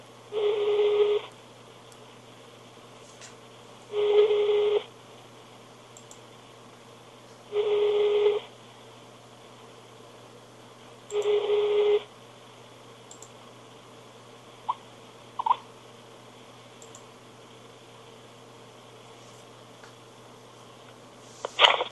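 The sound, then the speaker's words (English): An outgoing Skype call ringback tone repeats four times, each burst about a second long with roughly three seconds of quiet between, followed by a few faint clicks and a sharp click at the end, as a dropped call is redialled and fails to connect. “And then I tried calling again, then I couldn't connect.”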